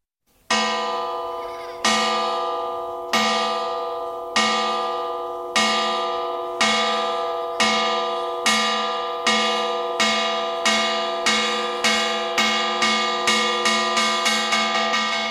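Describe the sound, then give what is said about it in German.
A metal gong made from a rusted bomb casing, at a rehabilitation centre for disabled children, is struck to call lunch, each ringing blow decaying slowly, the strikes starting about 1.3 seconds apart and quickening toward the end, with no voices. “In einem Rehabilitationszentrum für behinderte Kinder ruft der Gong zum Mittagessen. Der Gong, das ist hier die verrostete Hülse einer Bombe.”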